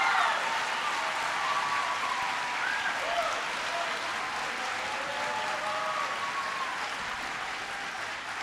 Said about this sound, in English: I am so impressed with the work that's been done here at Wright Middle School, and I know that Principal Nancy Evans deserves a huge amount of credit, so please give her a big round of applause.